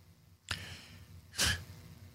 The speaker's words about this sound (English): I mean, she's upset. My lady, the studio dog, is upset. You just heard her right now. I mentioned, I can't even talk in front of her. She gets so upset about this.